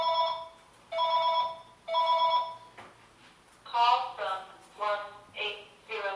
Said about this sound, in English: Oh, you know what? That's a telemarketer. I'm not going to. And it was on auto dial because it stopped ringing within about 3 or 4 rings.